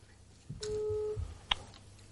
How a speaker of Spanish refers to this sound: El teléfono marca. Se nos va el buzón de voz, pero bueno, ahí está.